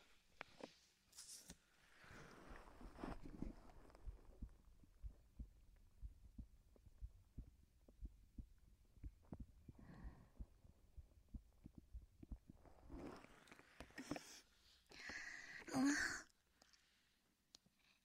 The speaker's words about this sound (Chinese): 刚刚在姐姐怀里，是不是听到了姐姐的心跳声？